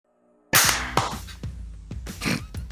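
After a brief silence, one sharp, loud hand clap, made to sync a recording, cracks out with a quick ringing tail, followed by a few softer knocks and clatters. No one speaks.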